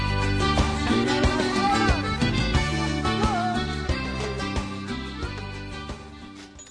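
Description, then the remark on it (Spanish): A short, bright instrumental jingle with full harmonies and a steady rhythmic pulse plays on its own, fairly loud, easing off slightly toward the end, introducing a segment of a radio program. “Esta musiquita nos indica que vamos al bloque de María Inés de Ángel”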